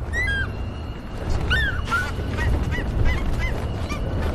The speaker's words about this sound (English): This is a story of the beginning of the war, when a sound engineer is trying to record unique sounds of birds and eagle in particular.